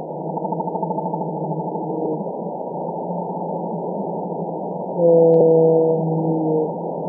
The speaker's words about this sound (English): And these calls are super loud. They're some of the loudest sounds that any animal makes. Well, let's actually listen to we have a recording of Eastern North Pacific blue whales. Let's listen now.